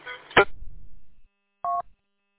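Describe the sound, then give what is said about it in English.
A sharp crackling burst and a fading hiss, then a single short, mid-pitched electronic warning beep from a radio, clear and fairly loud, with no voices; no indicator appears on the radio's display with the beep. “Like, I can't figure out what the beep warning is because it's not followed with an indicator on the display.”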